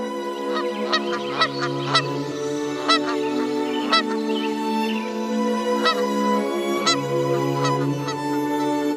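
A goose honks repeatedly in loud, nasal bursts, several close together then spaced out, over a steady low background hum with no talking.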